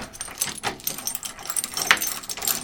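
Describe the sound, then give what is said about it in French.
Keys jingle and clink, with scattered metallic rattles and a sharper clack near the end as the front door of a home is unlatched and opened by someone leaving in a hurry. No one speaks. “Et je sors de chez moi.”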